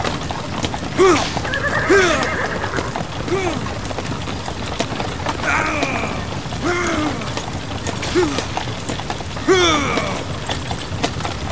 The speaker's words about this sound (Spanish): ¡Escucha eso! Me parece que se acerca un caballo al trote. Pues yo creo que viene al galope.